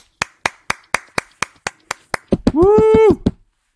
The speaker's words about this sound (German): Applaus. Sehr Applaus. Das war der Applaus.